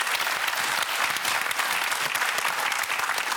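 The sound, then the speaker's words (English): An audience claps steadily, a dense wash of many hands at a fairly loud, even level that continues throughout without pause, enveloping. “A round of applause for James too.”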